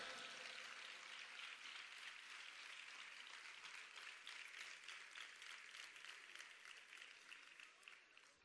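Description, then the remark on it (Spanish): Sustained audience applause at the 60th edition of a festival, marking 600 years, a dense wash of many hands clapping for several seconds, loud and steady before tapering slightly at the end. “Así que fuerte aplauso para esos 600 años, para la 60 edición de la Caracola Lebrijana.”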